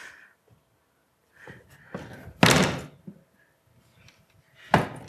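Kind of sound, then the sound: household object, door slamming shut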